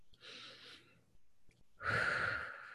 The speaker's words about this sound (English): can you hear my breathing, by the way? I'll breathe into here so you can see. Oops. No, I'm breathing consciously.